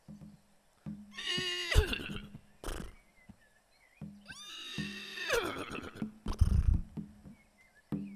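Two loud, shrill horse whinnies, each with a wavering, falling pitch, separated by short pauses, made by a group of people imitating a horse, with some thumps and breathy noise between them.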